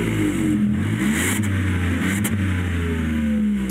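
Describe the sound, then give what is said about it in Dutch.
The 1-liter, three-cylinder, 115 hp engine of an up! GTI small hot hatch revs steadily and loudly, its buzzy drone rising and falling in pitch with a couple of throttle blips, with no talking over it. “De kleine hot hatch, 1 liter, 3 cilinder met 115 pk. Even reffen, kunnen we wel even doen, toch?”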